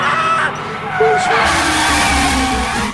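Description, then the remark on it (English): A car skids with a squealing, scraping rush of noise over a roaring engine and crashes straight into a tree, loud for about three seconds, ending in a deeper rumble, with voices mixed in. “He's crashed straight into a tree.”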